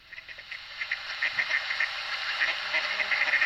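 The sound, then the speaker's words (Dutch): A steady chorus of ducks quacking outdoors in the Plantage park in Culemborg, Netherlands, many short overlapping calls blending into a continuous, moderately loud chatter with no one speaking. “we zitten hier in de plantage in Culemborg en daar heb je heel veel eenden”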